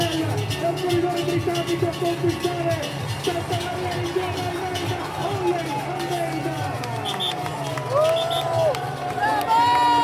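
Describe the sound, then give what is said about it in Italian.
A dense, steady roar of a crowd of fans cheering in Santa Maria as a cycling race passes, the first breakaway riders and team cars arriving, with overlapping voices and sharp whistles rising near the end, loud throughout. “L'asfalto vibra, la gente esplode, per un attimo Santa Maria non più un punto sulla mappa, ma il centro del mondo ciclistico.”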